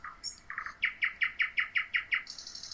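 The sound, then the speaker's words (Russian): A bird sings a bright, rhythmic song: a few quick lower notes, then a steady run of about eight sharp repeated chirps, ending in a higher trill. Clear, with no voices. “Снова птичка запела.”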